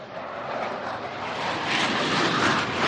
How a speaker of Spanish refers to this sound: Bueno, pues estamos escuchando en directo el despegue de... Son las cosas del directo. De esos aviones. ¿Alguno más o no? No. Despegan normalmente los cazas de dos en dos.